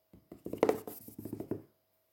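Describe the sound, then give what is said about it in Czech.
Tiny, quick footsteps of a tiny boy patter under a bed in a rapid, uneven run of about a dozen light taps over a second and a half, soft and dry, with no voices. “V tu chvíli co si zaslechl? Drobné kručky pod postelí.”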